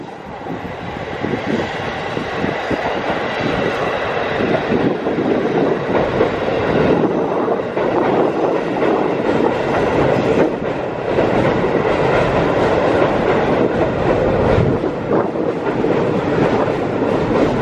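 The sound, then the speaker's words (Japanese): A train rolls steadily across the Kushiro River railway bridge, a dense, loud rumble with rapid clattering wheel beats throughout, broad and sustained for the whole stretch with no voices. “じゃあ、最後の音がですね、この釧路川橋梁を、通過していくっていう音をちょっと聞いていただきたいと思います。”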